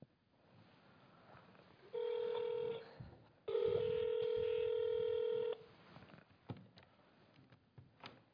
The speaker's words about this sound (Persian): خب اینم شماره دوم تماس دارم داریم زنگ میزنیم، به چند تا شماره شون داریم زنگ میزنیم.